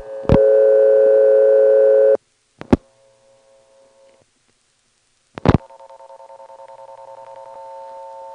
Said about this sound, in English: Huh, these things hum very often, and as you heard, the hum was being modulated by the pulsation for the ticking tone.